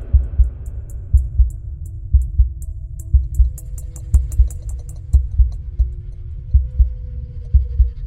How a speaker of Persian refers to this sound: همینطور که ضربان قلبم می رفت بالا می تونستم صدای نبض روی شقیقه هامو بشنوم.